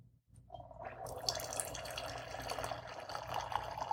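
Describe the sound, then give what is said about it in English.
Wine pours steadily into a glass after a brief quiet start, a continuous splashing gurgle with a bright, rising liquid tone as the glass fills. No one speaks. “So we're going to go ahead and pour this. We're going to give it a good pour.”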